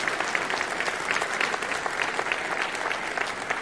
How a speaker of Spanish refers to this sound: Qué tremendo. Sí, un aplauso al Señor que se lo merece. Es para Dios, no es para mí.